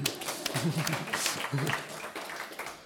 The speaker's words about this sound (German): Super. Einmal einen Applaus, bitte.